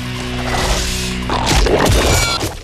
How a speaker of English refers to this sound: As Sub-Zero steps onto the ice bridge, two metallic whips with crocodile head tips wrap around some pillars on the bridge.